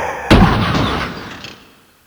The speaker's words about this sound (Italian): La macchina gli passò sopra con un botto e un gran rumore di metalli schiacciati.